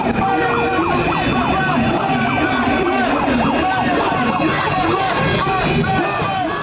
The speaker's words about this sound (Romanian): organizatorii au fost încercuiți practic de coloane numeroase de contra-manifestanți care au adus cu ei și niște motocicliști, aparent încercând să bruieze cu zgomotul motoarelor discursurile demonstranților.